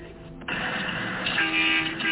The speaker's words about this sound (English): Can I get a honk for my five-year-old? We're waiting for the honks. He's getting impatient here, guys. Let's hear a honk for my five-year-old.